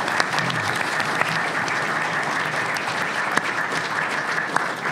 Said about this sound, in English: So if you can join me in thanking them with a round of applause.